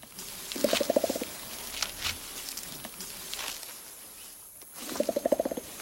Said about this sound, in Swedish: Men hör och häpna här. Så här låter det när en gorilla slår sig på bröstet.